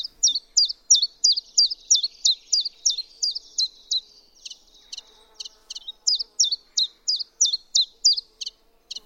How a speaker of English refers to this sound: The little olive green warbler has the onomatopoeic name chiff chaff in English, Welsh, Dutch, and German. And its Latin name stems from the word for money changer, as the song was thought to sound like the jingling of coins.